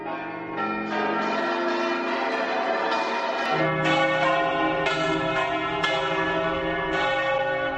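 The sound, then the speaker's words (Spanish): Church bells ring out from bell towers on 21 April 2018, when more than 1,000 bell towers across Europe rang to have the bell-ringing tradition recognized by UNESCO: a dense, overlapping peal, strikes roughly once a second over a sustained, resonant hum, loud and continuous with no voices. “Oye, el 21 de abril de 2018, más de 1,000 campanarios de toda Europa sonaron para que esta tradición de las campanas fuera reconocida por la UNESCO.”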